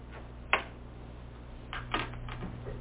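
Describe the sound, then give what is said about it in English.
Papers being shuffled: a sharp rustle, a pause, then a longer crinkling burst followed by a few softer rustles over a steady low hum. No one speaks. “Too many pieces of paper here.”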